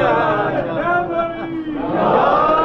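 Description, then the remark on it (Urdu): A large crowd at a speech shouts a religious slogan in unison, many voices blending into a loud, sustained roar that swells again toward the end, filling the space. “آپ کے نعرے نے اٹھا دیا, سلامت رہیے.”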